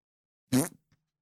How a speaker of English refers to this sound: It's me farting into your face.